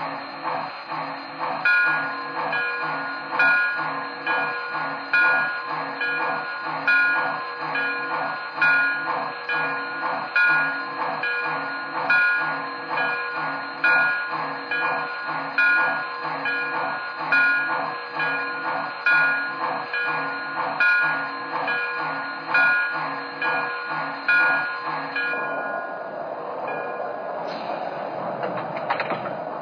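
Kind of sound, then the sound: vehicle, train arriving at station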